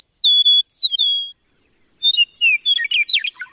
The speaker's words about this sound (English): With their bright yellow breasts and superlative songs, meadowlarks are among our most familiar and cherished birds. The eastern meadowlark's clear whistled music is the unmistakable anthem of eastern North America's farmlands and open country.